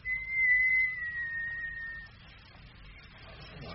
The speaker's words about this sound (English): I'll give a whistle, if I may. Yes, go on. Whistle away.